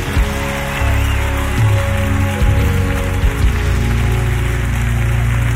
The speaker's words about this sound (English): Come on, clap those hands if you're thankful.